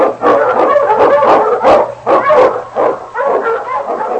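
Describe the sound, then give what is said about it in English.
King, the Eskimo lead sled dog of Sergeant Preston in The Challenge of the Yukon, barks excitedly and repeatedly, loud, with a rapid string of sharp barks and yips running together, with no voices. “The Wonder Dog King, swiftest and strongest of Eskimo lead dogs, blazes the trail through storm and snow for Sergeant Preston as he meets the Challenge of the Yukon.”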